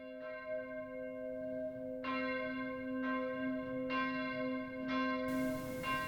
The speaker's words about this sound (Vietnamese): Tiếng chuông từ một giáo đường gần đó bắt đầu đổ, văng vẳng đưa lại.